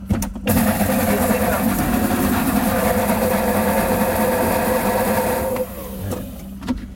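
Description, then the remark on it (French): A heating food processor blends chili peppers with two tablespoons of sunflower oil, with a loud, steady motor whir and a faint tonal hum for about five seconds, then cuts off, leaving a quieter tail and a short clatter. “Et hop, et c'est parti dans le mixeur.”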